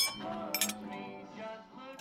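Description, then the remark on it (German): Glasses clink together in a toast as a glass is raised, two bright, ringing taps close together, followed by a lingering shimmer of resonant tones that slowly fade, with no talking. “zurück in der Familie der Verdammten und Vergessenen, ruft er aus und hebt das Glas.”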